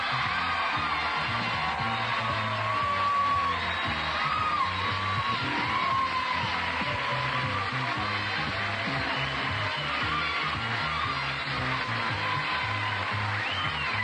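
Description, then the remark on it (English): The studio audience of The Price is Right applauds and cheers steadily as host Bob Barker is introduced, with scattered whoops and yells over a dense, continuous roar that stays loud throughout without fading. “My gosh, that applause died down awfully fast, didn't it?”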